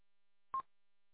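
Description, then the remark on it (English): A single short electronic beep, a clear steady tone lasting about a tenth of a second, sounds alone against silence, like the end-of-transmission tone on a handheld radio, apparently a Chinese mobile radio. “It must be a Chinese mobile or something, because it's got the beep at the end of it.”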